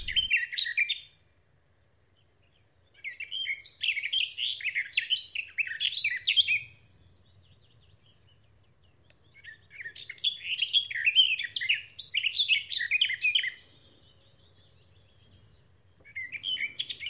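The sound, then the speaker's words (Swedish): A garden warbler, recorded by Lars Idenius, sings in long, rich, warbling phrases of rapid varied notes, delivered in several bursts separated by pauses of quiet, clear with no voices. “Det här är en trädgårdssångare inspelad av Lars Idenius och den fick avsluta Joakim Lindvalls reportage.”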